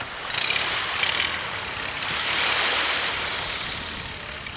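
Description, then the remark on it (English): A tiny boat carrying people in wetsuits crashes through waves off a bird nesting island in the United States, its engine droning steadily beneath a broad, hissing wash of water and surf, swelling and easing as waves break around the hull. No voices. “Onyenuevo Island is one of their few nesting places in the United States, so we're all zipped tightly into wetsuits and crashing through waves in this tiny boat.”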